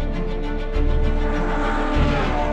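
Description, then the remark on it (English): A Formula One race car engine roars loudly and continuously, its high-pitched whine holding steady with slight surges in intensity, dominant with no voices. “This is the music of friction and heat and speed.”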